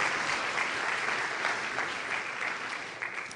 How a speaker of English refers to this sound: let's give our Lord our applause. That was wonderful worship here this morning.